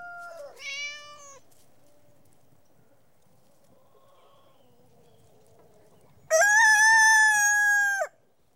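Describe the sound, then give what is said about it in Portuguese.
A brief hen-like squawk sounds near the start, then after a quiet stretch a rooster lets out one loud, drawn-out crow lasting nearly two seconds. No one speaks. “Galinha?”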